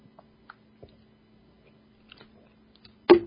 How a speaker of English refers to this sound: I just drank some water.